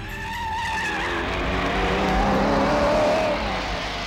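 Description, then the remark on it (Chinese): A motorcycle carrying a rider and a passenger races along a mountain road, its engine roaring at high speed with a whining pitch that climbs and slides. It is loud, with a hissy, skidding edge throughout the few seconds. “山路上，驾驶着摩托车的廖飞拉着惠子在兴奋地飞驰着。”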